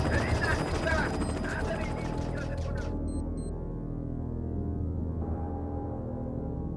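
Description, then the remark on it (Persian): A loud, rapid burst of automatic gunfire rattles for about three seconds, then cuts off, leaving a steady low rumble droning on underneath. “یلا شلیک و پسر، یلا.”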